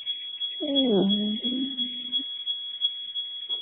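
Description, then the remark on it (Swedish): A frightened pug's noisy, wheezy breath, heard over an emergency call, rises into a groaning, falling-pitched rasp that lasts a second or two, then fades, with a steady thin high-pitched tone running underneath throughout. “Är det du som låter så när du andas? Nej, det är hunden.”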